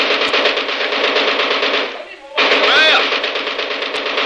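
machine gun firing

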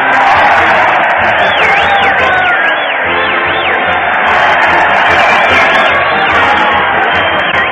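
crowd cheering

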